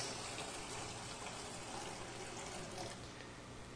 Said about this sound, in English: So as we come to the font, we take the water and we see it as a living water poured out over us.